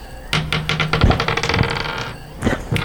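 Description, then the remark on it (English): Dice clatter and tumble across a hard tabletop in a quick burst of sharp, rattling clicks for about two seconds, then a couple of final knocks as they settle, fairly loud; the dice are rolled for a wisdom saving throw. “I'm gonna use a different dice and we'll see if this is gonna mess me up or not.”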